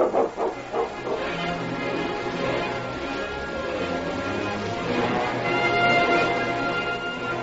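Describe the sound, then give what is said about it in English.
A husky hitched to Preston's sled barks in front of a cabin in the darkness, a run of quick, fairly loud yelps that keeps going, with other dog noises blending in and a busy, continuous backdrop and no talking. “As they crept toward it in the darkness, one of the huskies hitched to Preston's sled, raised his head, and barked.”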